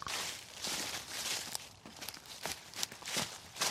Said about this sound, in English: Anyway, just listen to these leaves as I stride off through them, and I better get back to the farm and do some proper work.